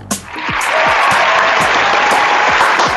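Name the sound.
applause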